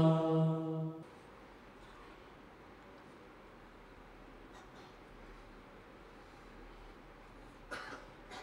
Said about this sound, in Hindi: खम खम खम, पहले भी कहा जरासीम ना फैलाओ, कोई खांसी होती है और आगे कपड़ा रखे मुँह के कुछ रखे, मैं बीमार हूँ।